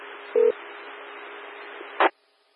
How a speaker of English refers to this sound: Pager tones, I was just attempting to reset the weather radio.